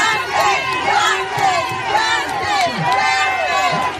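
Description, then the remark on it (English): A crowd of more than 100 people gathered outdoors at Fair Hill and Pike Streets in Hunting Park on a Sunday afternoon for a vigil with a release of white balloons, many overlapping voices calling out and chattering at a steady, fairly loud level, no single speaker standing out. “Then the crowd released white balloons in honor of Ariana De Jesus.”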